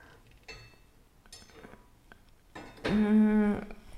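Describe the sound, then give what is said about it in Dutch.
Dishes, cutlery and a large knife clink and clatter as they are loaded into a dishwasher, a few light knocks followed by a louder ringing scrape of metal against the rack near the end. “Nu zit hij dus mij echt in de weg. Ook in de vaatwasser.”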